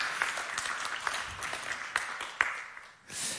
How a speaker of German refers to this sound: Hey, gebt doch mal der Band einen Applaus. Sie, glaube ich, verdient.